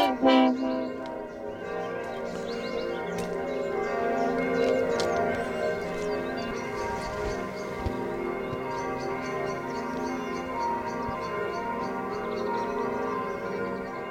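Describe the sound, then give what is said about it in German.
Church bells peal continuously to call the faithful to a church service, their overlapping rings layering into a dense, sustained wash of tones at a steady, fairly loud level, heard alone without any voices. “Hört ihr die Glocken? Die Gläubigen werden zum Gottesdienst gerufen.”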